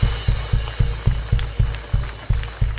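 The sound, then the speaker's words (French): A church audience claps along for the Lord in a steady, rhythmic beat, with heavy thumping pulses and a wash of crowd noise filling the room. “On peut applaudir encore Seigneur si vous le voulez.”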